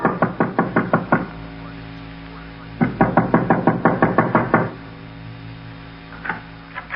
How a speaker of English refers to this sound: there was another knock on the front door. And this time, our caller wasn't expected.